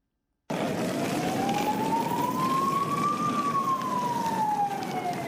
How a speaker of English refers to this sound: The wailing of sirens were all that could be heard on the streets of Brussels this morning.